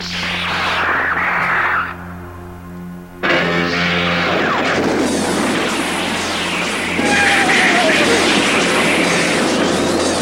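The energy cannon at the prow of the starship Argo fires with a loud, sustained roar over a low droning hum, then heavy rumbling explosions and a falling whine follow as it smashes enemy screening ships and Nazca's battleships, intense.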